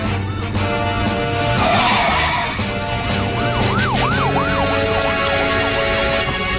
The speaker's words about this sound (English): Wow, Chucky, that's a policeman's car. They must be chasing after some bad guy.